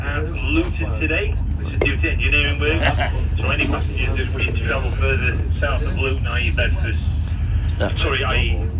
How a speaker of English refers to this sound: Sorry about this, people listening. This train announcer's had the temerity to do his job and tell people what's going on in the middle of the podcast.